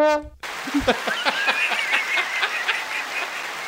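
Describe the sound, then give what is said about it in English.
A short, low, droning horn-like tone stops abruptly, then a steady burst of clapping follows, with bright whistles rising above the applause until the end. “It was sad for a second, and then we got the applause.”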